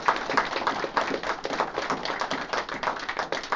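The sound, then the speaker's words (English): A round of applause from a group for a state championship team, with dense overlapping claps forming a steady, crackling patter that holds at a fairly even loudness throughout, with no voices. “Let's give everybody a round of applause right now.”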